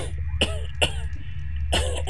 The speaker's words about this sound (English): Yeah, you don't hear any howling, but Faladin does start coughing.